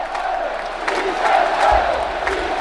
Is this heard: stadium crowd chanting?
yes